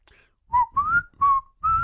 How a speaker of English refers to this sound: This is, and we might have even talked about this before. Can you whistle?